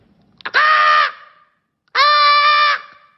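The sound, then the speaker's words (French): A comedian imitates a seagull's cry with two loud, harsh, nasal calls, each about half a second to a second long, separated by a short pause. “Tu vois, ça c'est une mouette ça.”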